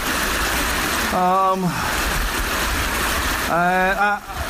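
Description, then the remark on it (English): A brook in the Welsh countryside rushes steadily with a loud, continuous watery hiss that never lets up, while two short voiced vocal sounds rise briefly over the flow. “That's why I'm stood by brook / aggressive stream.”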